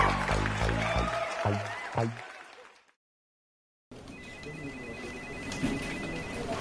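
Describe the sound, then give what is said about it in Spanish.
A burst of crowd applause, dense steady clapping that runs for a few seconds with a thin high tone over it, following a brief tonal sound and a second of silence. “Los aplausos.”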